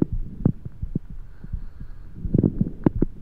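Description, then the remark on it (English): Heartbeat heard through a stethoscope, with low, muffled thumps falling in an uneven, offbeat pattern over a steady low hum; irregular clusters of beats crowd together toward the end. No one speaks. “And they let doctors distinguish the offbeat cadence of a problem rhythm.”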